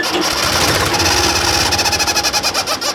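A loud 1970s tractor engine runs steadily, its rough exhaust pipe chugging in a fast rhythmic pulse that grows more pronounced toward the end. No voices.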